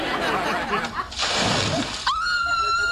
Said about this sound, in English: Oh! Why'd you scream? You knew it was me.